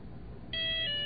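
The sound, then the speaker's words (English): A mobile phone's custom ringtone suddenly sounds halfway through as a call comes in from a GSM phone, a bright, steady electronic tone with rich overtones that shifts pitch slightly as it continues, fairly loud. “Actually, let me set that to my ring.”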